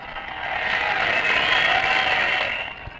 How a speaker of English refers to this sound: is approaching the platform, and that is what all the cheering is for.